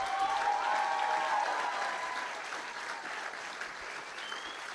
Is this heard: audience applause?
yes